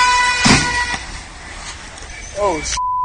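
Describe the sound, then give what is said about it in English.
Busy street noise as cars rush past, a steady roar with brief louder swells, a sustained horn-like tone running underneath and faint voices mixed in. “cars are whizzing by and just keeps going”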